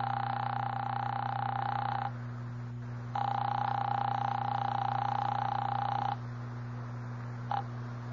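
A telephone ringback tone heard over the line as a 15-cent phone call is placed: two long, steady, buzzing rings separated by a pause, then a brief clipped blip as the call is answered, over a low electrical hum.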